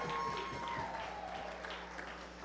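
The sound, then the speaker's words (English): An audience applauds a composer of daytime drama music who won two Emmy Awards, a dense wash of many hands clapping at once, loud and sustained for a few seconds without any voices. “But come on, two Emmy Awards! Give it up for him!”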